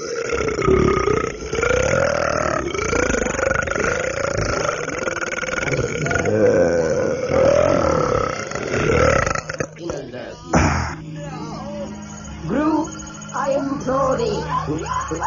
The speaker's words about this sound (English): We want to hear the belch that's going to send you away from us.